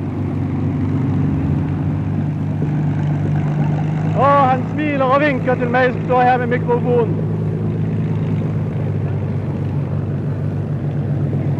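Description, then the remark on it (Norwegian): A propeller airplane with the Norwegian flag on its tail taxis past on the runway a few metres away, with a steady, low droning engine rumble that holds throughout, while a man talks briefly over it midway. “Neste flyver kommer opp og kjører opp på rønnveien forbi meg her.”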